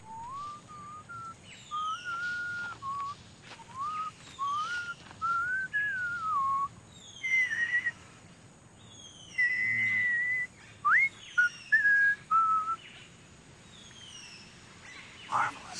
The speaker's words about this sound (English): when Riker says, like, oh, when I met him, he was trying to whistle a tune, and I can't remember what it was. And I'm like yelling, screaming, it was Pop Goes the Weasel.